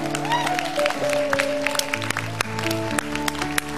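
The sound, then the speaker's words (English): An audience at a Christmas church service claps steadily for the Lord for several seconds, a dense patter of many hands, with sustained musical tones and some crowd noise humming underneath. “Give the Lord a big clap.”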